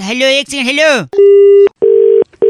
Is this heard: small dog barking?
no